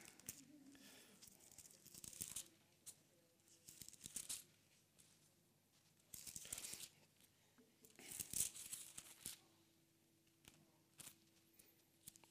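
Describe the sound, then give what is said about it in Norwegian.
Pages of a Bible being flipped to the Gospel of Matthew, with several crisp papery rustles and swishes coming in irregular bursts, fairly quiet, separated by short pauses. “Jeg blar jo aldri i en bibel, vet du, omtrent.”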